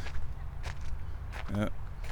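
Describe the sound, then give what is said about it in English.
A few footsteps of people walking down a corridor at Herrenhaven, dull irregular thuds over a low rumbling background, with a brief muffled vocal-like sound midway through. “I can hear them coming. They're walking down the odoriferous corridor.”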